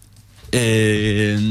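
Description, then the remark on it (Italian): An alarm clock goes off abruptly after a brief quiet moment, sounding a loud, buzzy electronic tone that holds steadily with a slight wobble rather than separate beeps. “E comunque avevo appena concluso, era la sveglia che diceva che avevo appena concluso in realtà questo articolo di pagina 3 del Messaggero, appunto.”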